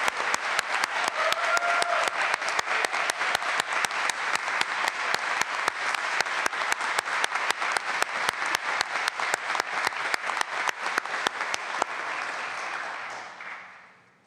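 At a graduation ceremony, a large audience applauds the MA graduates steadily for about twelve seconds, with dense, overlapping clapping that holds a loud, even level before tapering off and fading out at the end.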